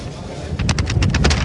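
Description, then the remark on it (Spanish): Strong wind blows into the microphone at a football match between Recre and Linares Deportivo, as a steady, heavy low rumble, then a quick run of about eight crackling, hissing gusts batters it in the second half. “Escuchamos el viento, porque ahora sí que está soplando con más fuerza.”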